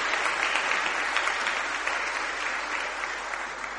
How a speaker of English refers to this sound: Should we give our three volunteers a round of applause as they go and sit down?